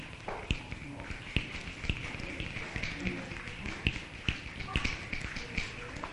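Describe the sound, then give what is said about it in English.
An audience's many fingers tap in a dense, irregular patter that mimics rainfall, with sharper clicks standing out every half second or so over the steady crackle. “The rain's getting a little louder now.”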